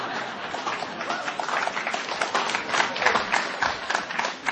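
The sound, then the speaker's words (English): An audience in Philadelphia applauds steadily as a speaker comes onto the stage, many hands clapping into a dense, crackling wash of sound that holds at an even, fairly loud level for several seconds, with no voices. “I always used to dream of coming onto a stage and being applauded before I'd done anything.”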